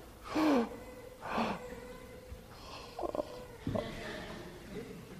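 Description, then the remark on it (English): Two loud, breathy deep inhales from a group of people, each about half a second long, followed by a pause as they hold their breath and a few short murmured sounds against faint room noise. “It's sort of like if you keep breathing in, can you do it?”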